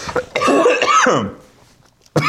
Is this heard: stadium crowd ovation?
no